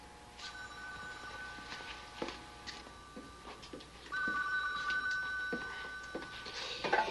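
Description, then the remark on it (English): A telephone rings steadily with a bright, sustained electronic tone that swells louder partway through, accompanied by occasional soft clicks and no voices. “Go answer the phone.”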